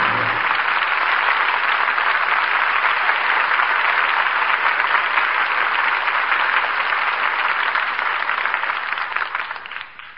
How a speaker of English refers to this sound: Wagons move on, the cannon are silenced, as the curtain falls on Jezebel. And we all join in applauding the artists who brought us this play tonight. Loretta Young, Brian Dunleavy, and Jeffrey Lynn.